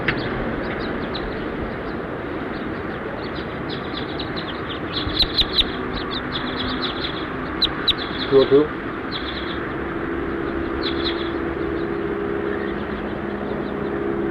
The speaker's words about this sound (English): As house finches flew over.